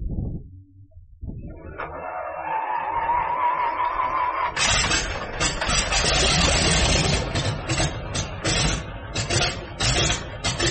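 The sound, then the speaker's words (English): A vintage Howard DGA radial airplane engine starts up: a whining starter, then a sputtering catch that roars into a loud, throaty, uneven rumble with popping bursts, without voices. “We're going to hear a Howard DGA start up.”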